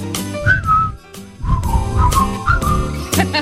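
A person whistles a short, bouncy tune in clear, close phrases of rising and falling notes, with rhythmic musical accompaniment underneath and no talking.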